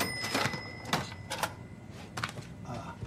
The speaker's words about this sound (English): Oh, I'm just listening to the sound of the cash register. the ringing and the drawer closing. And That's anachronism, isn't it?